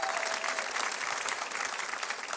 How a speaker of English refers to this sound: Give him a nice round of applause back there.